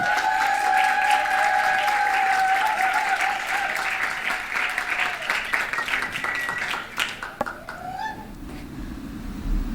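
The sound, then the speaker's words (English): A festival crowd applauds warmly to welcome a performer, dense clapping with a few cheers and whistles over it, sustained for several seconds before thinning out and fading away near the end. “let's give a warm welcome to Parvana for her first Fusion Festival experience”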